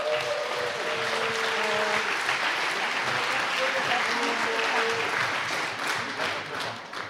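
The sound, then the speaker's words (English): Steady audience applause for Team Nook at the 2025 infrastructure review, a dense wash of clapping that stays loud and even throughout, with a few faint tonal notes and murmurs underneath before tapering slightly at the end. “Give them a great, great hand of applause.”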